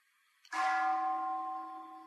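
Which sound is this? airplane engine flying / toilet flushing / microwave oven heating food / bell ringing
bell ringing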